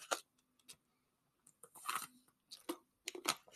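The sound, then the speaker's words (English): Someone takes a drink of water, making several short wet slurping and gulping sounds with brief pauses of quiet between them. No one speaks. “Excuse me, get some water.”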